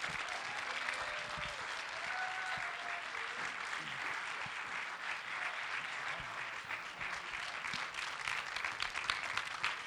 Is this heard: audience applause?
yes